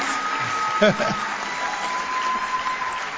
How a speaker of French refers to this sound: Est-ce que vous pouvez applaudir très très très fort, chers camarades?